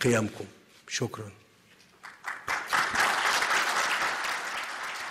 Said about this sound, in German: Tja, während Beifall in deutschen Pressekonferenzen verpönt ist, scheinen ägyptische Kollegen damit kein Problem zu haben.